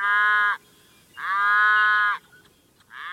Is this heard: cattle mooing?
yes